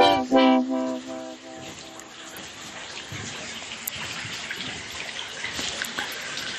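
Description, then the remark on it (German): Steady splashing and trickling of water at the saltworks (Saline) graduation tower in the spa town of Bad Kissingen in the Rhön, a very high, long wooden structure, runs continuously at moderate loudness, with a brief tonal sound at the very start and no voices. “Was ihr da im Hintergrund plätschern hört, das ist die Saline in Bad Kissingen.”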